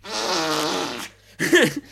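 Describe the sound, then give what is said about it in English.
A voice loudly imitates a fart: a buzzy, sustained blast lasting about a second, then after a brief pause a shorter, wobbling burst that slides in pitch. “And but the second time I heard you fart was the most devastating one because...”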